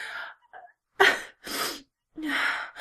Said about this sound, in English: Take a deep breath.